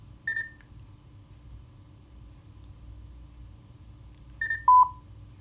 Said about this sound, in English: Okay, and once you've heard those beeps coming out of the Mountbatten, you've now connected.